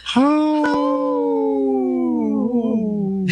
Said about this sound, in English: Howl.